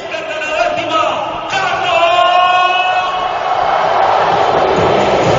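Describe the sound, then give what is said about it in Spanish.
A large crowd at the Bernabéu stadium roars in a standing ovation as coach Carlo Ancelotti is presented, cheering and shouting continuously at high volume, with many overlapping voices filling the space throughout. “Ovación. Se cae el Bernabéu. En pie.”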